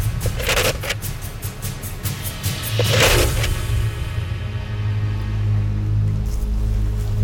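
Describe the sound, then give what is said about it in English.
Rough, raspy scraping strokes, several in an uneven rhythm, made to call a moose by imitating a moose rubbing its antlers against brush to clean the velvet off. The strokes fade out, leaving a low steady rumble. “I'm gonna do some calling for a moose right now by scraping, and I'll be imitating what it sounds like when a moose is rubbing his antlers to clean the velvet off.”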